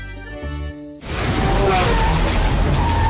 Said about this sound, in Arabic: واو، وش ذي السيارة؟ هذه تويوتا الرياضية الجديدة.